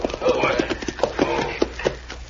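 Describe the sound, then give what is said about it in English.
Horses at a hitch rail outside a cafe, their hooves clip-clopping in a steady rhythm, the sharp knocks overlapping with murmuring voices throughout. “There are horses with this hitchway, and I'm going to go in.”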